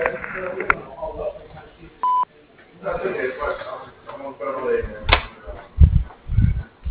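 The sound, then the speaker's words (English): A single short, steady electronic beep from an answering machine sounds once, clear and fairly loud, with talking before and after it on a slightly muffled phone line. “Please leave your name, telephone number, and a brief message after the beep, and we'll promptly return your call.”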